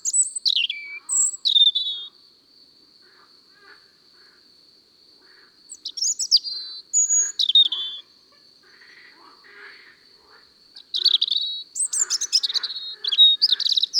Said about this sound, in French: Tu entends comme c'est aigu? Le rouge-gorge chante parfois des notes tellement aiguës qu'on ne les entend pas. Des notes qu'on n'entend pas? Oui, notre oreille ne peut pas les entendre. Ça s'appelle des ultrasons.